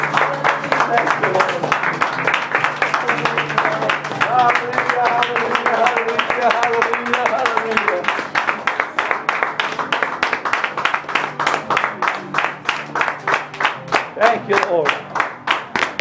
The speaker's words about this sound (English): Go give him a hand clap and praise.